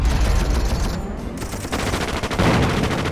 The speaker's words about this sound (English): The Syrians opened heavy fire from machine guns and anti-tank cannons against the force from the upper cable station.